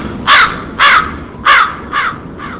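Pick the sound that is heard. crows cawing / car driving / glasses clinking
crows cawing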